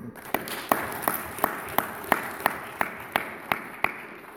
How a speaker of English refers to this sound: Alrighty. I'm going to give a round of applause for them.